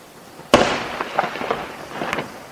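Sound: fireworks and firecrackers exploding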